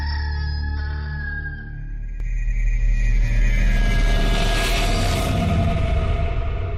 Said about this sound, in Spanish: Pedro volvió a negar y enseguida cantó un gallo.